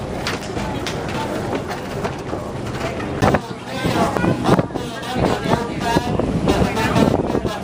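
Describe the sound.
A tour boat on open water at Pearl Harbor in fine weather, with steady engine rumble and wind buffeting the microphone, while indistinct voices chatter and a few birds call faintly in the background.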